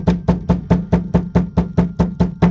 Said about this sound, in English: The knocking continued with more urgency.